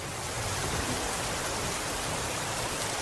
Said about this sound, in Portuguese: mas caramba, olha só como tá chovendo. É uma chuva bem forte e acho que não vai passar tão cedo.